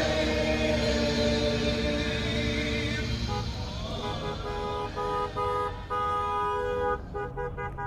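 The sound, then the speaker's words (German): Many car horns honk continuously and overlap in a loud, sustained blare, with engines rumbling beneath as a Trump Train motorcade of cars passes through New Braunfels, northeast of San Antonio. “Dieser Trump-Train knattert, hupt und wummert durch die Gemeinde.”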